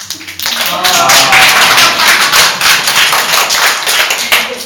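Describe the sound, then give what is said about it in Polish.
A crowd at a church retreat breaks into sustained applause for Jesus, a dense, loud wash of many hands clapping with steady crackling texture that holds for several seconds. “A pokażcie, jak bijecie brawo dla Jezusa.”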